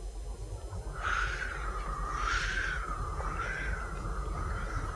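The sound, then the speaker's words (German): Wind sweeping through reeds: a steady breathy roar with a thin, wavering whistle rising and falling over it, continuous, with no voices. “Das ist der Wind im Schilf.”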